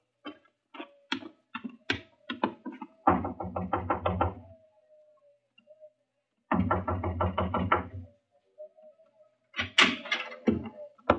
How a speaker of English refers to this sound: Just knock on the door of the truck.